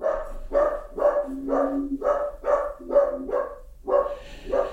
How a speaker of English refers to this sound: Letter of recommendation, yelling at your dog for barking all day long. That's my little wiener dog. His name is Walnut. Walnut, that's enough, buddy. We heard ya. I think my wife may be just arriving back home, so he'll bark for a minute.